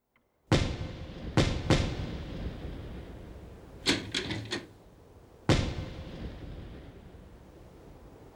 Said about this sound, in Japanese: なんだ？ 花火ですか。季節外れな。